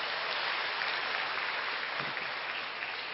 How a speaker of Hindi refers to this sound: जोरदार तालियां बजाएं।